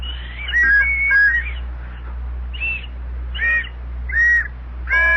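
A small plastic Tom Mix signal arrowhead, about three and a half inches long with whistles on it, blown in a series of short, shrill, warbling toots, a quick cluster at first and then single spaced blasts, fairly loud over a low steady hum.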